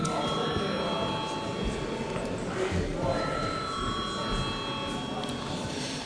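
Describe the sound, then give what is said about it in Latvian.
A steady electric bell rings without pause for several seconds in the Latvian parliament (Saeima) chamber before a vote, its high metallic tone over a low murmur of voices and shuffling. “Lūdzu zvanu.”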